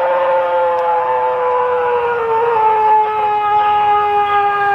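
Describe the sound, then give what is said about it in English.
A moose screams: one long, loud, moaning wail with a rich tone that holds steady and slowly sinks in pitch over about five seconds, with no talking. It is heard in the woods by a man hunting for mushrooms. “That's a moose.”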